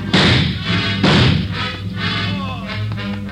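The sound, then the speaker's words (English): A man who has been shot in the leg falls to the ground and hits his head: two heavy, broad thuds about a second apart, followed by softer scuffling and shifting sounds over a low, steady hum. “He got him in the leg, Joe. Hit his head when he fell.”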